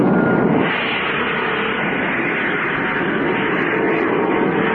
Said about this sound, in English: Yes, Jet. All motors fired simultaneously.